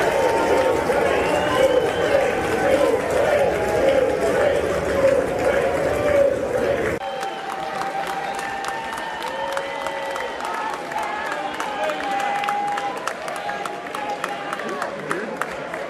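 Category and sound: crowd, lawmakers cheering and applauding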